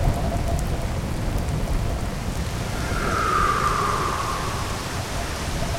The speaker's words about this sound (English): Sudden rain, high winds. Less than ideal for fishing without rain gear, but better fishing for me.